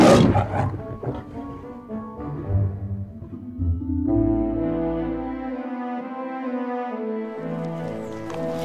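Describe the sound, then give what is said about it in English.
A lion roars, opening with rough, rumbling growls before swelling into a long, sustained, throaty roar that holds steady to the end. No voices are heard. “Lion, Strax. It's a lion.”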